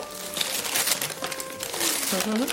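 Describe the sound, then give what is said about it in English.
Continuous crinkling and rustling of wrapping paper as a Christmas present is torn open, with a faint voice murmuring underneath for a couple of seconds. “Can I open it, Dad? You know I love opening presents.”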